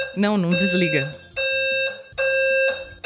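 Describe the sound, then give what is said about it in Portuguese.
A fire alarm blares in long, steady, high-pitched electronic tones, three sustained bursts separated by short gaps, with a voice speaking over the start. “Isso é que é alarme de incêndio.”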